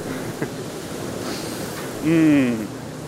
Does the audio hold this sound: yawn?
no